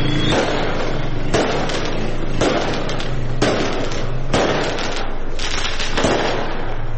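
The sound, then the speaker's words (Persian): Fireworks set off by celebrating people in the street in Saqqez or Mahabad, Iran, go off in a dense, continuous crackle, with sharp bangs recurring about once a second over a loud, steady roar. No voices are heard. “در شبکه‌های اجتماعی تصاویری از آتش‌بازی مردم در دو شهر سقز و مهاباد منتشر شد.”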